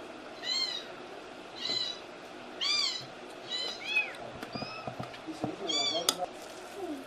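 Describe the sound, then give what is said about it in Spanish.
Several domestic cats in a home that keeps about 25 to 27 cats meow repeatedly, overlapping calls from a few animals over a low background murmur, with a brief clatter near the end. “Falleció un bebito, quiere decir que hay 26 o 25, 27 gatos en casa.”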